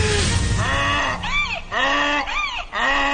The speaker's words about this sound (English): She can't understand the donkey because when he talks, all we hear is donkey braying.